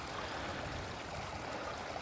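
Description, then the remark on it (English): A peaty, tea-coloured, very clear burn (stream) burbles and gurgles steadily over stones at the halfway mark up towards Mither Tap, continuous, with broad splashing texture and no voices. “And you can hear where it sort of burbles down.”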